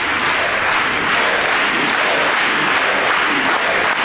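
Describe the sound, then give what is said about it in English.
A large audience applauds steadily after someone is officially made an agent of the United States Secret Service; the dense wash of clapping stays loud and even for several seconds with no voices standing out. “I mean, how could you not clap for that?”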